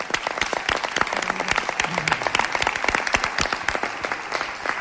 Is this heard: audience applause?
yes